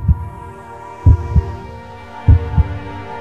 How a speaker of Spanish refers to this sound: Uf, además era un silencio absoluto en la sala, todo el mundo esperaba que latiera y pasaban los minutos y no latía. Y por fin tuvieron la fortuna del primer latido y cambió totalmente el panorama.